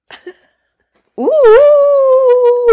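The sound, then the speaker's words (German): A person imitates a dog's howl, a loud sustained rising-then-level wail lasting over a second, preceded by a couple of faint short noises and a brief silence. “Soll ich das heulen? Ich kann da gleich anschließen. Also heul doch mal.”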